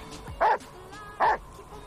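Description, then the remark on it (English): A dog named Mogul, out on a ski slope, gives two short, loud barks about a second apart, with a faint whine before the first and a quiet background between them. “turns to his dog. What do you think?”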